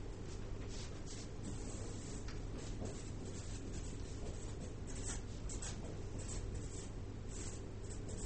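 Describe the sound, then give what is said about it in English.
A pen scratches steadily across paper, drawing a clock, with short strokes and brief pauses in a continuous rhythm over a low background hum; no one speaks. “Okay, I'll draw the clock.”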